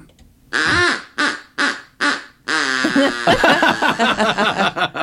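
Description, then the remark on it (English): A duck call is blown in imitation of an evil duck: four short, harsh quacks in a row, then a longer, louder run of rapid raspy quacking that sputters on to the end, with no talking. “Do like an evil duck.”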